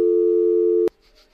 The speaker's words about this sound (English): That was weird. What was that? The phone just did that. That was you. Yeah. That wasn't me.